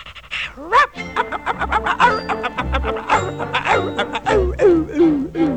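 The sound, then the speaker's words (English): A human voice imitates a dog barking, with a quick run of yaps and woofs that rise and fall in pitch. The vocal barks are fairly loud and continue for several seconds. “And a dog.”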